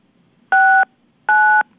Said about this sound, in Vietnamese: đang nghe điện thoại của cô rồi, cô không cần bấm nữa, hello.